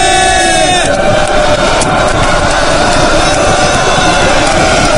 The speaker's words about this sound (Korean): 환호 소리와 박수 소리가 시작되는 곳은 언뜻 보아도 생김이 다른 미국 군인이 아홉이나 끌려오고 있었다.